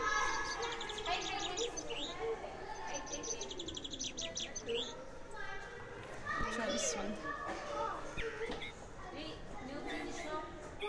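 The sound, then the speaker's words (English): A handheld toy bird, not very loud, is pressed and squeezed to give a bullfinch call, a run of short, high, repeated chirping whistles, mixed in with children's voices and lively chatter throughout. “And you press, you squeeze them, and they make a noise.”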